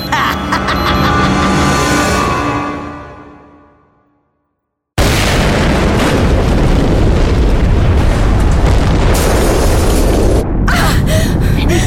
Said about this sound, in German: Der die Explosion ausgelöst hat.